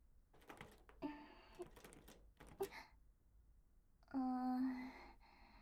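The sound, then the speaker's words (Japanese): A few clicks and knocks as a small door on a reward box, leading to the outside, is tried, then a drawn-out creaky squeal as it swings open. No one speaks. “開けられるみたいですよ。外に繋がってる小さな扉みたいなのがついてますね。”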